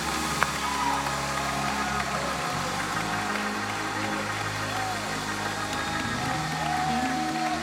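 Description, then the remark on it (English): An audience claps hands in a steady, dense wash of applause lasting the whole stretch, with sustained low instrumental tones and a murmur of crowd voices underneath. “Somebody clap your hands right alguien now. Denle un aplauso.”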